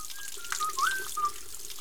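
Water runs steadily from a tap, a soft, even hiss with a thin whistling tone wavering above it. No one speaks.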